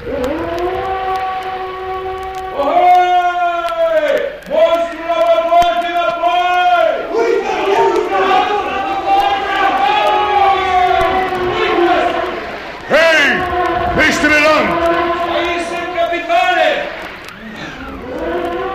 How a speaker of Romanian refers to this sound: Ai auzit multe balene mugind? Multe, capitane, dar niciuna atât de tare ca asta.